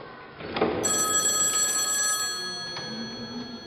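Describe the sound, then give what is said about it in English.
A telephone rings with a bright, sustained bell-like tone as a phone call comes in while everything is being packed into a gear truck; the tone holds for a couple of seconds, then fades into a softer lingering ring. No voices are heard. “We were packing up everything in the gear truck when Star got a phone call.”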